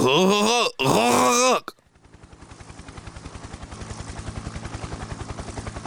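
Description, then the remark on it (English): A man, Carl, gives two loud bursts of strained, gagging groans as McLean strangles him with a chain around his neck, then falls silent as a steady rhythmic thumping of an FBI helicopter's rotors, hovering above the Nakatomi building, fades in and grows louder. “He twitches like a caught fish as the chain strangles the life out of him.”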